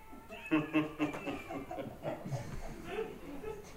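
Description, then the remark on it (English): A person mimics a tabby cat's meow with a drawn-out, wavering mew that rises and falls over a few seconds. It is moderately loud, followed by softer vocal murmuring. “Meow. The cat. A tabby cat.”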